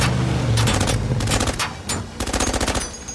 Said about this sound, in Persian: شلیک از طرف تکتیر اندو ساعت 11.